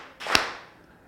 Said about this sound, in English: If you're saved and you know it, then your life will surely show it. If you're saved and you know it, clap your hands.